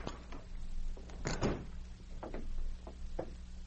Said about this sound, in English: A few minutes later, they knocked on his door.